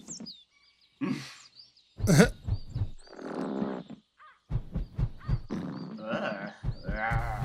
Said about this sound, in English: That sounds bad. It sounds like someone farted. Apparently, it's the mushrooms.